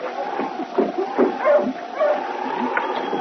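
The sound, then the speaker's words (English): A sled dog team, coming down from Dawson, barks and whimpers as it stops in front of a trading post in Selkirk: short yipping barks in irregular bursts over a steady, high whine that runs the whole time, with no voices. “It was the first part of the following week when Sergeant Preston and King, coming down from Dawson, stopped with the dog team in front of the trading post.”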